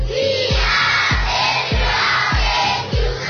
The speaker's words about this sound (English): All right, I can see the way you're screaming. You are very excited today. Right, today we really have an exciting time.